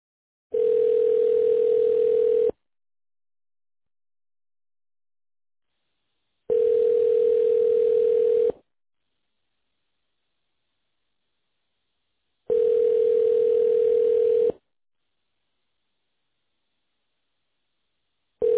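A telephone ringback tone repeats three times while a call to Level 4 Custom Homes and Contracting is being transferred. Each steady buzzing ring lasts about two seconds with roughly four seconds of silence between, and a fourth is just starting at the end. Clear, with no voices.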